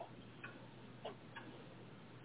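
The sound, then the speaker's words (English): A large clock ticks steadily, about three or four evenly spaced ticks over a faint, hissy background with no voices. “I sweat of every minute past as the tick-tock of the giant clock then intensifies into a madness reverberating, a loud clang of steel.”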